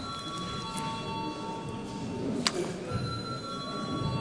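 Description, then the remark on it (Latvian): The chairman's bell in the Saeima, the Latvian parliament, rings before a vote in a steady, sustained tone with bright high overtones, holding for several seconds over a low background hum, with a single brief knock partway through. “Lūdzu zvanu.”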